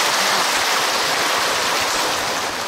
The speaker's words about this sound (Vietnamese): Sư rất là tán thán, rất là cảm động, và xin cho một tràng pháo tay cảm ơn đạo tràng.